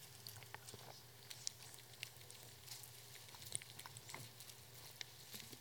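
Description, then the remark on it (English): Many Bible pages being turned at once as a church audience turns to Acts chapter 6, verse 7 during a sermon, a soft, scattered rustling and crinkling of paper with irregular quick flips, faint overall, over a low steady hum and no talking. “Oh, I love hearing all the pages turn.”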